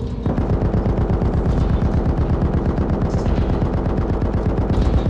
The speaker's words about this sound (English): There came a sudden explosion of activity as the Duchess's gun sprang to life again and opened fire on the monster.